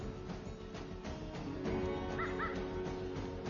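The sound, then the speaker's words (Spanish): Crows caw twice in quick succession, harsh, over a dense, rustling outdoor background with no one speaking. “Los cuervos son suficientemente malos”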